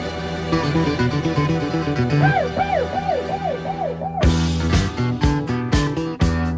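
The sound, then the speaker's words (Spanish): A short theme jingle for the "Llamada al experto" segment: a sustained musical bed with repeated rising-and-falling siren-like swoops, then a run of loud, punchy percussive hits toward the end. No one speaks. “Espera, vamos a escuchar tu sintonía.”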